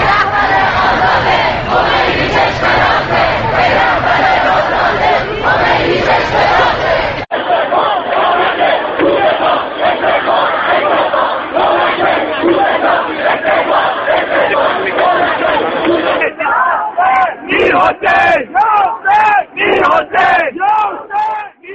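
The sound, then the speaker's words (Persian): A large crowd of student protesters at a university in Iran chants slogans loudly in unison against Mahmoud Ahmadinejad's government and the leader of the Islamic Republic, voices rising and falling in rhythmic bursts, with a sharper, clipped chant pattern toward the end. “اما همزمان با این راهپیمایی‌ها در بسیاری از دانشگاه‌های کشور دانشجویان مراسم اعتراضی را علیه دولت محمود احمدی نژاد برپا کردند و حتی بر ضد رهبر جمهوری اسلامی هم شعار دادند.”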